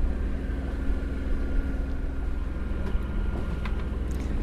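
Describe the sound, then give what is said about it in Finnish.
A sailboat's inboard engine chugs steadily and continuously, a low rumbling drone with a regular throb and faint higher clinks over it, no voices, motoring in dead calm, sunny weather with no wind for the sails, heading to Söderskär lighthouse island. “Täytyy käyttää tätä rautagenuaa. Moottorin puksutusta kuunnella.”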